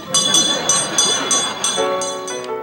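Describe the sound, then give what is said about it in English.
A small hand bell rings rapidly and steadily, about eight bright, clear strikes whose shimmering tones overlap and linger, fairly loud. “Because when I add this little kettle here, and when I add this little bell, it becomes a small business.”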